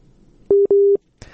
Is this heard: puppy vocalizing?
no